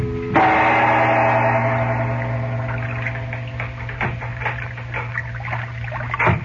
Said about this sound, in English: Now, late that night, a sailboat showing no lights is moving slowly up the dark river.